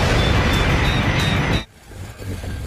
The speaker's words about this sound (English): Hope this works. 3, 2, 1, ignition.